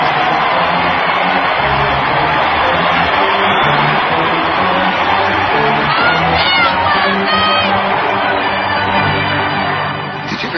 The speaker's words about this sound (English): And listen to the roar of the crowd as the Indians take the field.